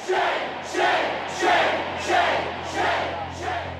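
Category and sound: crowd, protest crowd chanting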